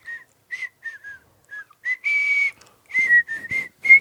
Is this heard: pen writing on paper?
no